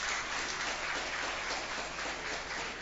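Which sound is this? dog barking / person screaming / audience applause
audience applause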